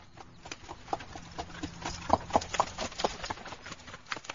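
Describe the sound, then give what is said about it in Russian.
Horse hooves clip-clop in a loose, uneven rhythm, a series of sharp knocks that grow clearer midway, over a faint background hiss with no one talking. “К вечеру он домой ворочается, под ним добрый конь спотыкается.”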